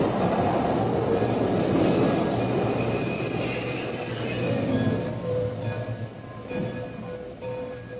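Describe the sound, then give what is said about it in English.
An old steam train engine rumbles steadily along the rails up to a river, a continuous heavy mechanical roar with a low hum underneath, fairly loud, with no voices. “Got the old engine up to the river anyway”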